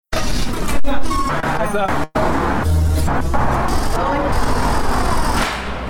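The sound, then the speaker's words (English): Busy city street traffic: a steady, dense roar of cars, buses and trucks, with a brief hiss like an air brake and indistinct voices mixed into the constant din. “But recently, he's turned his attention to a different kind of sound, cities.”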